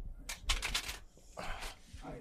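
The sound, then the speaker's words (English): A deck of playing cards being shuffled, with two quick flurries of crisp, papery riffling separated by a brief pause, fairly soft overall. “Give the deck a shuffle as much as you want.”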